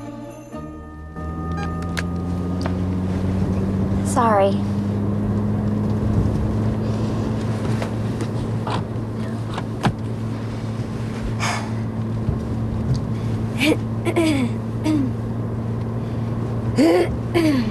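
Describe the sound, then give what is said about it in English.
A steady low engine drone fills the cabin as a couple ride along in their car, its pitch climbing slightly, with a few soft clicks and a brief spoken word over it. “a couple from the shop, are in their car.”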